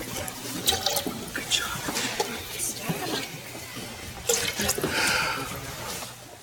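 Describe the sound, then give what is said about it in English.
Water is poured into a baptismal font, splashing and trickling steadily for several seconds, with bright gurgling bursts rising and falling and a faint background murmur. “Pour the water in.”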